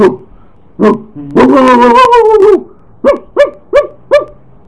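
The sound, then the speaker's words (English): A human voice imitates a dog: two short barks, a drawn-out wavering howl, then four quick yaps in a steady rhythm, fairly loud. “A dog barks.”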